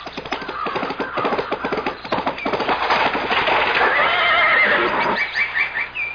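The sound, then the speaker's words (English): Fast, rhythmic hoofbeats of a galloping horse, spurred by its rider toward a high stone wall, pound, then a loud, drawn-out neigh rises over them before the gallop fades into a few lighter, scattered hoof strikes. “Before I could move, she clapped spur to a horse and headed for a high stone wall.”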